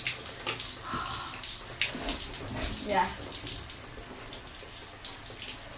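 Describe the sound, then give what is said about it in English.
Shower water runs in a steady, hissing stream, with splashy fluctuations throughout and a faint murmur of a voice briefly underneath. “And shower as well.”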